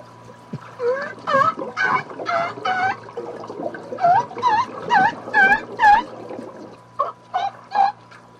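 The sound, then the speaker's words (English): An orca imitates seal calls: three rapid runs of short, nasal, harmonic squawks, each call bending up or down in pitch, over a steady low hum with no talking. “This is an orca who, it seems pretty clear, was listening to those seals, and now he's the same way we might whistle a Bob White.”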